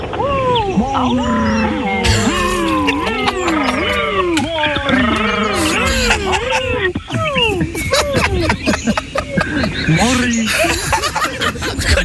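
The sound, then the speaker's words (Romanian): Several people growl, roar and howl together like a crowd of angry forest animals protesting against the lion at a rally in the forest, loud and overlapping in a continuous chaotic din with bursts of laughter. “Ia să vedem cum se aude un meeting în pădurea pădure.”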